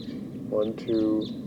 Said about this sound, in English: 1, 2, 3, 4, 5, about 6 or 7, or maybe more birds. Stop. They're recording the wild birds. They took off.